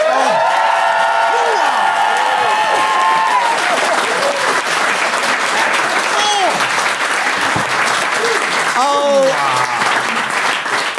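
crowd, audience applause and cheering

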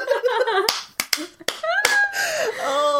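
human body sound, hand clap

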